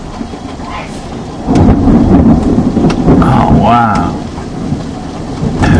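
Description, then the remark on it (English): Hail and heavy rain pound down in a steady, dense roar while a deep rumble of thunder swells partway through; a person briefly exclaims over the storm. “It's hailing? Oh yeah, look, hail.”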